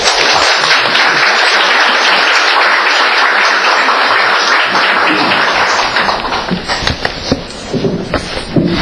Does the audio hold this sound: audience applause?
yes